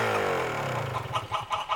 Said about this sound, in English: The hen lay an egg.